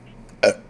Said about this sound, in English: This is a burp.